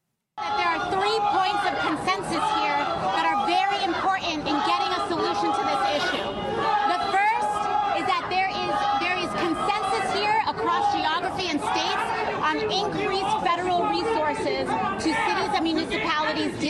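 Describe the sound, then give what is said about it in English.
A large crowd in New York boos a woman speaker defending Democrat policies on immigrants, a dense, steady roar of many voices with shouts and jeers rising out of it, loud and unbroken for the whole stretch. “Here she is defending her and the Democrat policies as it relates to this and being booed in the meantime, because there are a couple sane people still in New York.”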